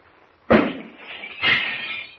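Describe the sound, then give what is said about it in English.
A glass pitcher, hit by a small radium-powered cannon switched on across the room, bursts with a sudden loud crash, followed by a bright, sustained rain of shattering fragments that swells again about a second later before trailing off. “The pitcher explodes into a million fragments.”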